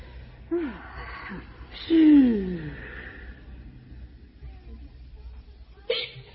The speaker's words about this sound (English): I thought I heard you hiccup. But I'm not hiccuping.